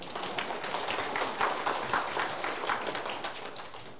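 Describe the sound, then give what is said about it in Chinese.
An audience applauds steadily for several seconds, a dense, even wash of many hands clapping with no talk over it. “给你掌声给神好吗？”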